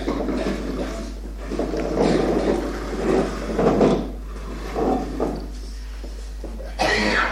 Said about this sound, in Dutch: Pak die stoelen en schuif aan.